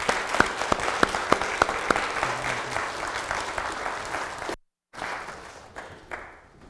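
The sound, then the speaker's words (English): A church audience at a worship service bursts into sustained applause for God, many hands clapping in a dense, steady wash with a few sharp claps standing out, then a brief cut and the clapping continues more softly. “Let's give God a round of applause for what he did.”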